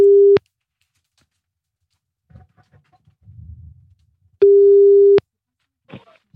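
A steady, loud telephone line tone sounds in two bursts while a call is placed to a seller of papillon spaniel puppies listed on Le Bon Coin, a short one at the start and a longer one later, with faint rustling and small noises in between and a brief sound after.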